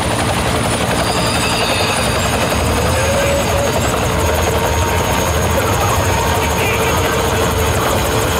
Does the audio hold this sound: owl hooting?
no